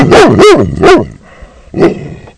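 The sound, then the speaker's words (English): A female dog barks four times, loud: three sharp barks in quick succession, then a short pause before one final bark. “Four barks.”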